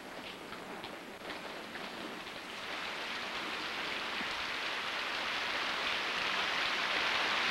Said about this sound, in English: As Selena looks up, raindrops begin to fall.